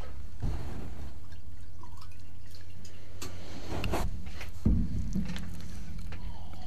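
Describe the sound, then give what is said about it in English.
2004-vintage wine pours steadily into a glass, gurgling and dripping for several seconds, with a few small clinks and splashes partway through; no one speaks. “I brought the 2004, which is the same vintage as Guy and Kathleen brought. This is, let me give you a taste of this.”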